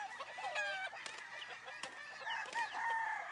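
Several chickens cluck and squawk busily while a rooster's crow rises through the flock, a continuous, dense barnyard chorus with no talking.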